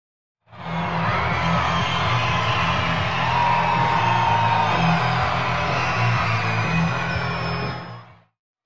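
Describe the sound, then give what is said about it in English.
A baseball crowd at Chuck Chancey Park cheers loudly and steadily for about eight seconds during a pitching coach's mound visit at a Friday night Grizzlies game, a dense roar of whoops, yells and shouts with a low rumbling undertone, swelling in quickly and fading out at the end. “As the Grizzlies trying to put something together, the fans cheering loud as here's a mound visit from the pitching coach and the crowd. You can hear it.”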